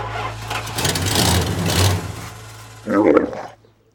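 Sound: big truck engine running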